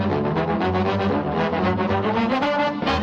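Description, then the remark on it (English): Deep tuba bass notes play an oompa bass line at a steady loudness, with a bouncy, pulsing rhythm under a fuller band texture, at a Tuba Christmas carol event. No voices. “a song that's got plenty of oompa oompa.”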